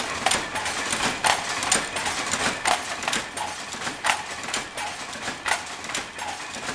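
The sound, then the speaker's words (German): A dense, steady mechanical din of 160 automatic weaving looms running together in a weaving hall, with overlapping rhythmic clacks and beats over a constant loud roar. No voices. “160 Web-Automaten machen ein gleichmäßig Geräusch.”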